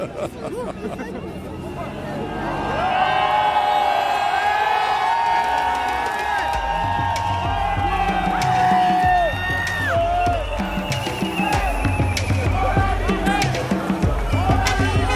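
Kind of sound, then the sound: crowd, large crowd cheering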